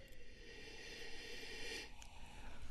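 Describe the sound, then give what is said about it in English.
A long, steady nasal sniff of a red wine in a glass, a Black Label wine from Venezia of 90% Merlot and 10% Cabernet Sauvignon. A soft airy inhale lasting under two seconds, followed by a faint pause. No one speaks. “Let's give it a sniffy sniff.”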